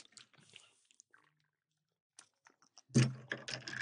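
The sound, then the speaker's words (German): Faint scattered clicks and scraping as a pen stirs and taps inside a glass of water with mango juice, followed near the end by a louder, busier burst of rattling and rustling. “ihr müsst es schon noch ein bisschen umrühren, ne? Weil jetzt ist der Mangosaft ganz unten.”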